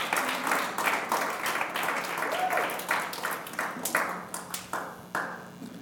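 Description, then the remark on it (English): An audience claps, a steady patter of many hands forming a fairly loud, sustained round of applause that keeps going without letting up, with a faint murmur of voices underneath. “Hey, if you're going to clap, go ahead.”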